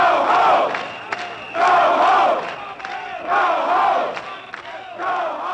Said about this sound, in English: Later that evening, the police entered the Castro in large numbers, causing the people to come out of the bars screaming, "Get out of our neighborhood."